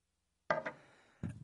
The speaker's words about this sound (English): I'm going to need a little drink of water. I'm going to cough.